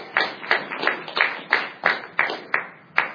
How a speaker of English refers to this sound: Thank you for that rousing applause. We gave you a standing ovation.